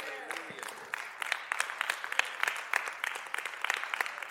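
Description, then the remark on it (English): An audience applauding God, a steady patter of many hands clapping with sharp irregular cracks, joined by a few faint voices calling out underneath. “Okay, so that was applauding God's.”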